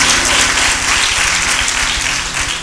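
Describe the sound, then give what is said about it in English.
A church audience claps their hands in sustained, dense applause, steady and loud throughout with no pause, alongside a low hum of background music. “Come on, clap those hands.”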